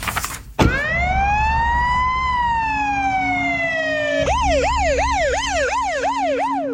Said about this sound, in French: La voiture de police repart, toute sirène hurlante, sous le regard ahuri des passants. 10 minutes plus tard, le véhicule entre dans la cour du commissariat de Palo Alto et s'immobilise.